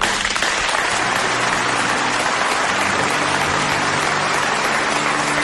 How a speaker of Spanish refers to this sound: Escuchamos también el aplauso de la plantilla de la Unión Deportiva Ibiza en un vídeo estupendo.